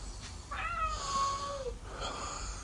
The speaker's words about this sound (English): Is that a cat calling me? Is it? Is that Mr. Dealey calling me? Is he? Is that you?